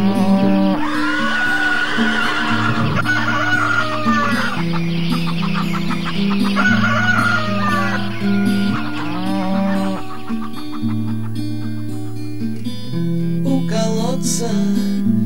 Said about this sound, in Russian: на заборе в странном хоре голос льют петух. Он отважный в каждом споре, стоит сразу двух.